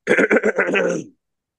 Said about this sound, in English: Yeah, do a few test runs if you have to. Okay. Clear your throat.